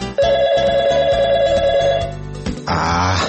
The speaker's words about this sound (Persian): ای بابا، باز دوباره می زنگ زد. ببین این تلفن رو بگیر، بگو بابام خونه نیست.